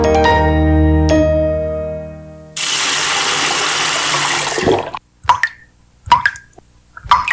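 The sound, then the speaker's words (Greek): A low steady hum gives way to a tap gushing water for a couple of seconds, then the flow stops and a few separate drips plop loudly, with no one talking. “Μην κάνεις πως δεν τρέχει τίποτα.”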